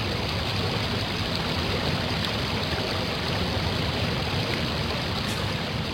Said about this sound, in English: If I'm right, let the river prove it. And at that moment, they heard the rushing of the water.